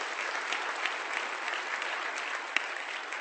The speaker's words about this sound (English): If you give them a round of applause, they deserve it.